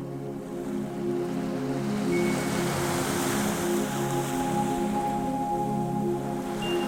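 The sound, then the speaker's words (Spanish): Steady, broad wash of ocean surf rolling against the shore, a continuous soft roar that swells gently, with faint low tonal hum beneath and no voices. “Inhalas y el mar besa la orilla.”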